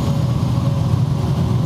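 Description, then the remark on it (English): A heavy truck engine rumbles loudly, a deep, steady roar of road traffic that holds for the whole moment with no voices. “God damn these trucks.”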